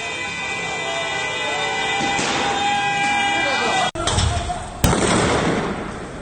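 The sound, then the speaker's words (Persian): Two or three sharp gunshots, fired directly by security forces at protesters in Sardasht, Iran, crack out at irregular moments over a noisy outdoor crowd, with voices shouting throughout and a steady background roar. “در سردشت، دوربین یکی از شهروندان لحظه شلیک مستقیم گلوله توسط نیروهای امنیتی به سوی معترضان را ثبت کرد.”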